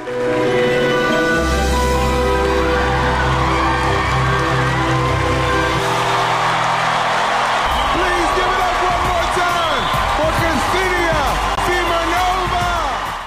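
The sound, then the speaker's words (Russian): The audience and judges give Ksenia Simonova a standing ovation after her sand-art performance in the America's Got Talent final, clapping loudly and continuously while sustained low music plays at first, then excited cheers and whoops rise above the steady applause. “Зрители и судьи стоя аплодировали Симоновой после выступления.”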